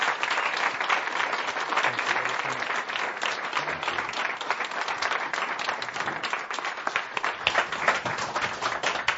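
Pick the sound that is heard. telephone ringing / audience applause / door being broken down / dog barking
audience applause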